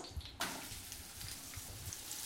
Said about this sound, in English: So we've got hot pan. Is that hot enough? We're good to go. Okay. It sounds like it's bubbling up. We've got all those sliced onions. In they go.